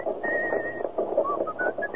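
human body sound, person whistling a tune

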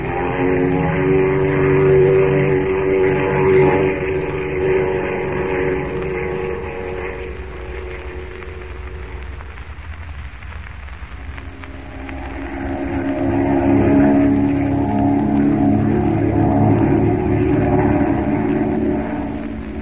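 vehicle, airplane engine drone

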